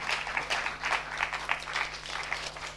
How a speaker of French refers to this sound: Voilà. On l'applaudit?